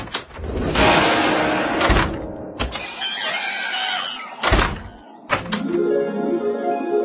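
A door opens, a mechanical whir and rattle broken by several solid thunks and latch clicks, with no voices present.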